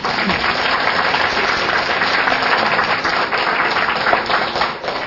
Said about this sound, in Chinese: 来给他鼓掌一下。